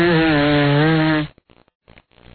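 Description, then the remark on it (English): A man blows a very congested nose: one loud, buzzy, honking blast lasting over a second, followed by several short, rough snorts and sniffles. “Man blowing very congested nose.”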